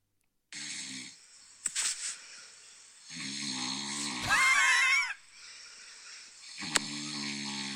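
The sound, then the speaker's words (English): A person snoring at night: heavy, rasping snores repeat in long drawn-out cycles, loud, with a harsh wheezing squeal peaking mid-breath and sharp snorting catches between them. No one speaks. “this is what I have to listen to 6 or 7 times a night, and this is why I wake you up”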